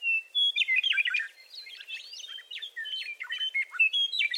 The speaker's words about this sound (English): Over time, Inslee grew to love the meadowlark's song, not only for its melody